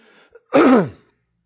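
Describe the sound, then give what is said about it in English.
A single loud, rasping throat clear lasts about half a second after a brief faint noise, then silence. It sounds forceful, like someone hacking to clear their throat. “You started getting coughed up, choked up.”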